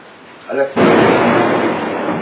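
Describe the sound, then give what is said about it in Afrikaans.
A brief voice, then a sudden, loud crack of thunder from a lightning strike that has just hit, caught on camera, breaking into a heavy, sustained rumble filling the rest of the moment. “Hulle kan nie daai weerlig straal wat hulle net geslaan het nawaak nie.”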